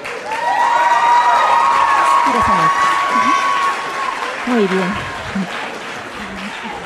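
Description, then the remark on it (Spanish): An audience breaks into loud, steady applause for a volunteer coming forward during a condom demonstration, lasting about four seconds, with a high whistle-like tone riding over the clapping. The applause then fades as a voice speaks briefly. “Un aplauso.”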